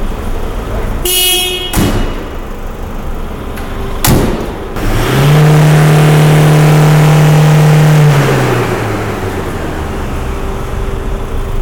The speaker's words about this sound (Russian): На станции техосмотра в Лепае царила рабочая обстановка. Машины заезжали и выезжали, сотрудники деловито проверяли автомобили, владельцы наблюдали за процессом.